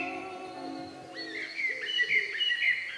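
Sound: birds singing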